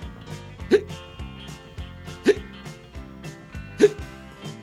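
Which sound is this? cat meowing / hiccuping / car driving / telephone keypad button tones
hiccuping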